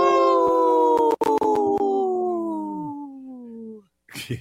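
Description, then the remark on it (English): A person imitates a wolf howl: one long, loud, sustained note that slowly slides downward in pitch for nearly four seconds, then a short breathy noise after it ends. “Good howl there”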